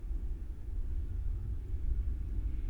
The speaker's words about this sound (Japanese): でも本当にすごい電車の音するね、ここ。あ、こんなにするとは思ってなかったな。